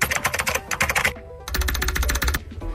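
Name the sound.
computer keyboard typing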